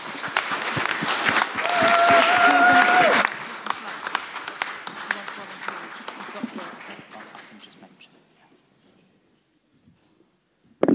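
A crowd applauds loudly with dense, steady clapping and a brief high whistle, then the clapping gradually thins and fades out over several seconds into near silence.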